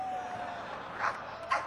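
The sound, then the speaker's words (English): A dog, Space Dog, barks twice in quick succession at a band's tour concert: two short, sharp yelps about half a second apart, over a faint steady background hum. “maybe you ought to meet Space Dog. Say something”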